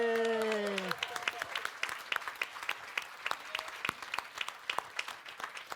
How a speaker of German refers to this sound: 422 Punkte, okay. Einmal Applaus.